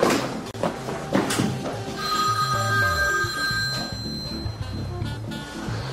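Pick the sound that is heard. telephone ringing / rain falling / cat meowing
telephone ringing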